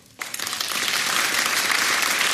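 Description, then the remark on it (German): An audience, those in the room who can speak Plattdeutsch, bursts into clapping after a brief quiet moment, the dense, steady applause swelling quickly and holding at an even level with no voices over it. “Wer kann noch Plattdeutsch im Raum mal kurz klatschen?”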